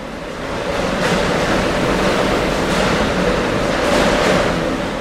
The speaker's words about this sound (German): Eine Maschine spuckt Plastikflaschen aus, ein Rollband transportiert sie in die Anlage, wo sie mit ihrem zuckrigen Inhalt gefüllt werden. Coca-Cola, Fanta, Sprite und das Mineralwasser Bonacqua werden hier auf der kleinen Insel Tolusto produziert.